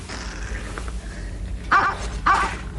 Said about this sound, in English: Do you hear something? Yes, what was that? It sounded like a dog barking. Sounded like a dog barking right here. Yeah. A dog? A Springer Spaniel.